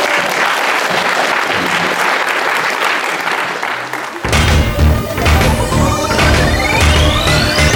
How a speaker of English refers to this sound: That's all we've got time for, so a huge round of applause for our panel.